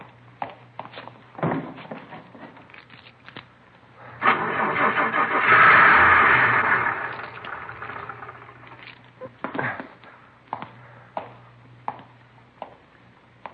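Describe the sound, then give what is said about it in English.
A car's starter cranks and grinds loudly for about three seconds, then cuts out as the car fails to start, amid scattered clicks, rattles and a low steady hum. No one speaks. “Lousy car wouldn't start. I'd be 3 miles away if it would have started.”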